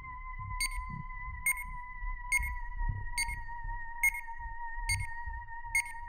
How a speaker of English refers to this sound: A continuous, frantic series of beeps came from the watch